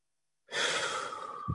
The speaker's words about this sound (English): I stop in the Shmona Esrei and I listen to my heart beating. And then I take a deep breath.